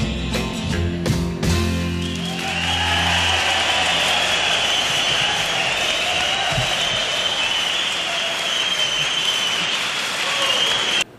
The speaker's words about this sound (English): Wow, what a fine... Great song. What a fine reception of us. Everybody's clapping and hooting and hollering.